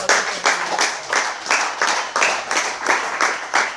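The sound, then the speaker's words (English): An audience at an Alcoholics Anonymous (AA) gathering claps in a steady, rhythmic beat, roughly three or four sharp bright claps per second. The clapping is loud, sustained and alone, with no talking over it. “I'm hoping you're clapping for yourself too, because without you, I wouldn't be here.”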